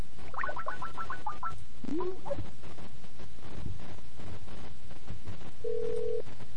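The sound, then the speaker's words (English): A quick run of phone keypad tones beeps out a number as a call is placed from a connected cell phone, followed by a connection chirp and then a steady ringback tone, over a low background hum. “Alright, so I'm connected to the phone, to my phone. So let us call our number.”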